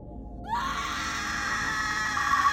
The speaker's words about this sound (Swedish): Så hörs ett vrål som är fyllt med så mycket rädsla att det får mig att kastas ut ur huset och ut ur sömnen.